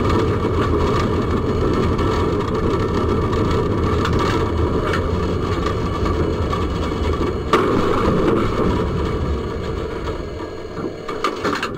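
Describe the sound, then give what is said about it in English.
A Russian train driven by a woman plows into a car with a loud, continuous grinding and rumbling of metal, steady throughout, with one sharper jolt partway through and no voices, as she powers down the train. “So if you wonder what a Russian train going into a car sounds like, it's a little like this.”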